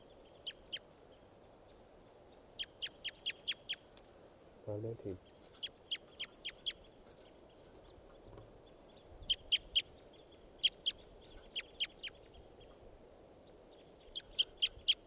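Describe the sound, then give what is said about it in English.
A recording of bird number 515: it gives repeated sharp, high chirps in quick bursts of three to five notes, separated by short pauses. A brief low thump sounds midway over a soft, steady background rumble. “So recording now, bird 515.”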